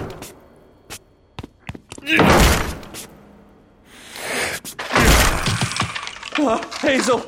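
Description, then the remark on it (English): A door with a broken doorknob is forced and broken down: a few scattered thumps, then two heavy splintering crashes a few seconds apart, with a voice speaking briefly at the end. “I'll break it down. Away from the door.”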